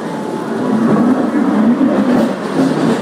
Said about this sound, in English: At the moment, we're still in bright daylight, although it's not that bright because it's raining. But we're getting shunted forward as the rest of the cars are being filled up with people. It is raining very slightly.